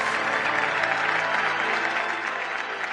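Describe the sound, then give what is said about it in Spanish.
Loud, sustained applause from a large audience at an episcopal ordination, a dense wash of many hands clapping steadily for the full stretch with no one speaking over it. “Una gran ovación del pueblo que se repitió en varios momentos de la ordenación episcopal”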